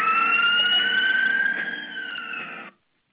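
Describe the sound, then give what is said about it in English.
A siren wails steadily with a high, slowly gliding tone, clear and fairly loud against faint background rumble, then cuts off abruptly near the end. No one speaks. “You heard the siren in the background as Wild Bill was closing out”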